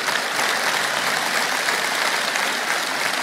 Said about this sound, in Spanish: Yo le daría un aplauso más fuerte a Él.